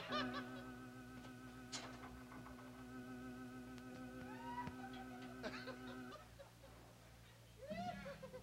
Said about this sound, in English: The cackle bird still there.